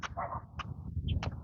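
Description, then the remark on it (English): A few short, sharp sparrow chirps ring out at spaced intervals, with one thinner high note between them, all over a steady low outdoor rumble. “I hear sparrows.”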